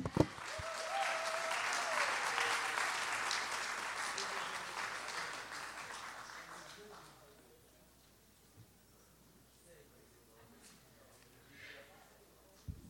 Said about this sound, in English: Praise the Lord, everybody. Why don't we give a hand clap unto the Lord? I think he's worthy.